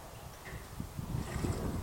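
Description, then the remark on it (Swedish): Soft outdoor ambience by a river: a steady low wind rush through birch trees with gentle, irregular river waves lapping and clucking, quiet and calm with no voices. “Det är tyst vid älven. Bara vinden i björkarna och klucket från vågorna hörs.”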